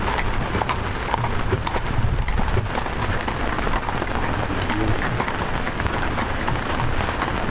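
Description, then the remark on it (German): Steady patter of raindrops on a roof mixed with clip-clopping horse hooves and a continuous crunching rumble of wagon wheels rolling over a gravel path, during a horse-drawn peace bell wagon trek, all dense with no speech. “Hufgetrappel, knirschende Räder im Schotterweg oder Regentropfen aufs Dach.”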